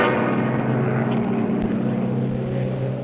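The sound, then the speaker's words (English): A propeller rescue plane drones loudly overhead, its engine a steady, humming roar that holds for a few seconds and fades only slightly at the end. “A plane! It's coming over us!”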